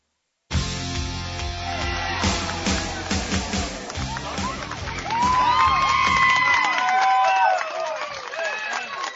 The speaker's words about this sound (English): And as you hear the clapping going on right now, is because during the break, right before we came back, able to score was Avery Meyer as she heads home on a error by the third baseman of Smithville.